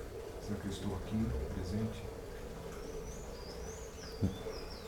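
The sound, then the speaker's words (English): Birds chirp outdoors in thin, sweeping whistles, soft, over the steady wash of a fountain, with a low voice murmuring faintly underneath. “The birds, the fountain, my voice, your own breathing, your own heartbeat.”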